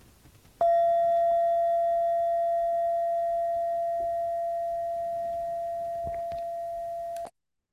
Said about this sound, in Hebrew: ושוב, צלצול הפעמון יכול לסמן מעבר ממדיטציה ללא מדיטציה, או פשוט המשך של התרגול.